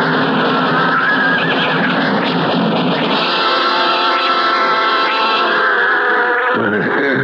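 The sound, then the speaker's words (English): A loud, dense rumble of a cattle stampede with horses, continuous churning hooves and a high whinny rising over the roar, filling the whole stretch without pause. “But they were stampeding.”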